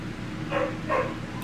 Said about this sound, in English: And they had the nerve to give me a... to still keep barking. They're getting bold out. They're getting bold.